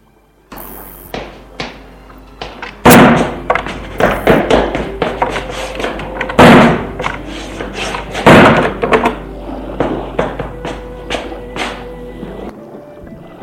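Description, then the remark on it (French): Doors and windows slam repeatedly at someone's home in an irregular flurry of loud, sharp bangs and rattling knocks, with several especially heavy slams standing out over a low steady rumble. “Et puis, chez toi, les portes, les fenêtres ont claqué.”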